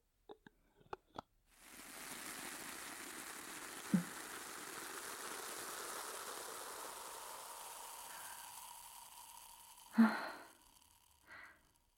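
A steady fizzing crackle of carbonated spring water being made at a salon shampoo station runs for about eight seconds and fades slowly. A few soft taps come before it, and a louder knock and rustle follow near the end.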